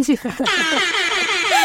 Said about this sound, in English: That's your first DJ Airhorn sound effect of the episode, and well-deserved, well-deserved.